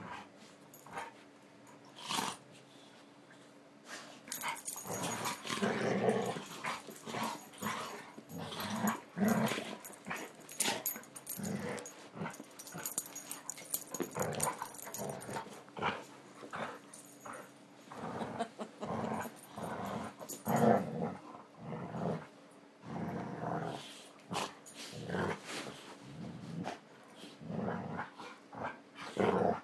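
Dogs, including Elkie, play-fighting in a free-for-all, with bursts of rough growling and sharp yips coming in rapid, uneven flurries that continue throughout with only brief pauses and no talking.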